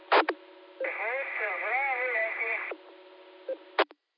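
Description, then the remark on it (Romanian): A squawky parrot voice comes through a narrow, crackly radio channel for about two seconds, its pitch sliding up and down, bracketed by sharp transmission clicks before and after. “Un papagal, cred că, care intră, că nu e aceeași voce, cred că e o înregistrare ceva.”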